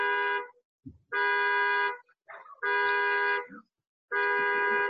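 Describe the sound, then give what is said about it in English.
A car horn, set off by someone leaning against the car key, honks four times in long, steady blasts of the same flat, buzzy pitch, evenly spaced, with brief faint murmurs in the gaps between. “I don't know, it sounds like my car.”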